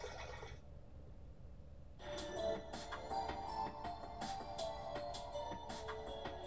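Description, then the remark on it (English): Rushing water from shattered glass tanks floods into a passage with a steady, hissing roar that swells after a moment, joined by scattered splashes and clinks. No voices, fairly quiet overall. “Being stuck in the middle of the passage, water is closing in on me from all sides, leaving me pressed in between.”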